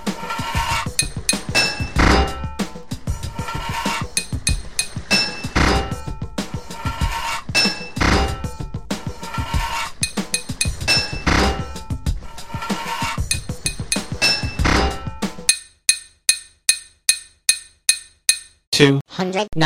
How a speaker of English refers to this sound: 11 total pipes to fit this level. Four hits of your hammer to fit a pipe.